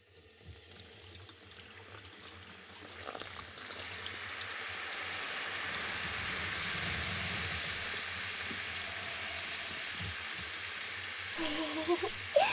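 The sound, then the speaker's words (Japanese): Carbonated spring water streams and fizzes steadily as it rinses a person's hair and scalp before shampooing, a broad hissing rush that swells and holds, with soft splashing and a few brief higher tones near the end. “最初に炭酸泉でお流ししますね。”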